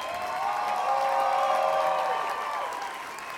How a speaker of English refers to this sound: Thank you. What an applause.